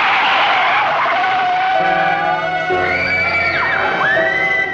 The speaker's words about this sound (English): Luke looks up, startled, and rushes towards the sound of the crash.